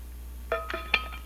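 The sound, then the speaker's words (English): A few light glass clinks and taps, like a drinking glass being handled and set against something while someone takes a drink of water, fairly quiet with no talking. “and I'll tell you, let me have a drink of water here.”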